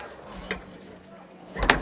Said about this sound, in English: George locks the door.